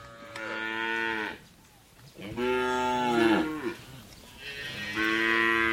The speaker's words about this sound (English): The one thing that you do not get on radio are smells, and the rich smell of cows here is overwhelming, of cow and cow dung. This is an enclosure that we've come to in the middle of very, very deep countryside. There are large numbers of cows here.